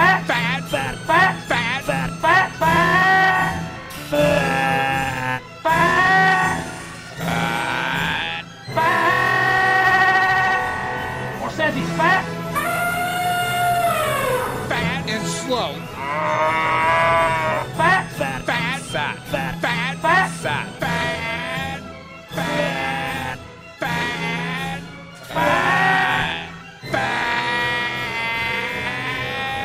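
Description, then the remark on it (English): A loud novelty 'Achievement in Obesity' alarm sound effect plays alone: buzzy, warbling electronic tones with swooping pitch sweeps and jingly accents, running continuously for half a minute with only brief choppy breaks. “So I unveiled a brand new Achievement in Obesity alarm.”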